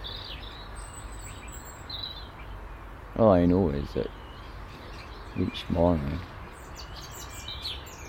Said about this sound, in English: the bird's song appears to be growing in strength. I wonder if they're just getting their voices in tune for the dawn chorus when the temperature suddenly lifts.